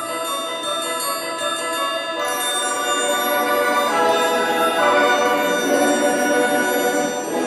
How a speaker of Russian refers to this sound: Раздался звон серебряный.